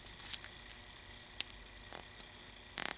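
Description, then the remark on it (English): A cut-off plastic cap is slipped over an open end that was bent around with pliers, giving a few soft scrapes and small clicks in short bursts, with a final rustle near the end. No one speaks. “Once you get that bent, you can take the cap that you cut off and slip it right over the top.”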